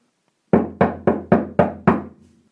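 Six firm, evenly spaced, loud knocks on a door late at night, each with a sharp attack and short decay, heard alone without any voices.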